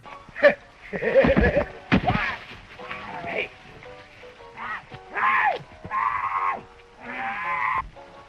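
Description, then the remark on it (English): In a movie, a man lets out a series of strained, wailing screams in bursts, loud, with a few sharp thuds and scuffling noises early on, as boys grab him at night in a prank and wrap him in a bedcloth. “the scream Himmel makes when they grab him is hilarious”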